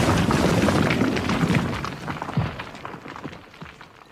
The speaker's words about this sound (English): I think the mine caved in. Let's go see.